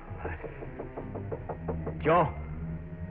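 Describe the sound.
Knocking on a door in a rooming house, about seven quick, evenly spaced raps in a steady rhythm at moderate loudness, followed by a short voiced call over a low background hum.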